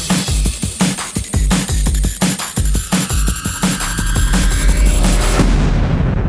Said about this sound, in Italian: E finisce con tanto di esplosione.